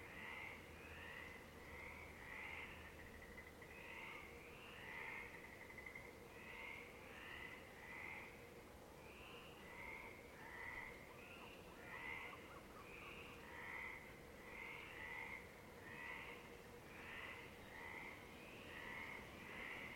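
frogs croaking at night

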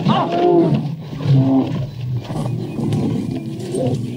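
lions roaring

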